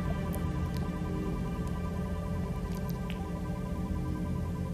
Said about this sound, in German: Du hörst das Knistern des Feuers, das Flüstern des Holzes, empfängst die Umarmung der Wärme und des Sommerwindes und bist ganz und gar vollständig geerdet und mit allem, was ist, verbunden.